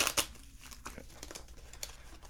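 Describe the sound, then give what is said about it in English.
Playing cards being shuffled by the dealer during a card game: a crisp, papery burst of riffling at the start, then a run of softer, irregular flicks and rustles with no voices. “I did shuffle them.”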